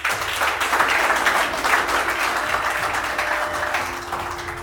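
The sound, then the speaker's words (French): Sustained applause from a sizeable audience for the teachers at an end-of-year gathering fills the room, a dense, steady patter of many hands clapping at once, loud and continuous throughout with no voices over it. “Je pense qu'on peut les applaudir.”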